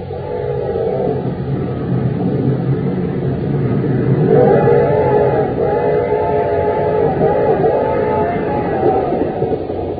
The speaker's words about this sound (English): We find them now on a fast express train roaring into Acme City.